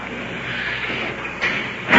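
A heavy jail cell door in a cell block rolls open as a jailer opens it, with a steady metallic grinding rattle, a sharper clank partway through and a louder bang right at the end. No voices.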